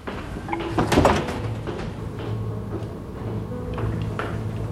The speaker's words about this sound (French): La porte est ouverte.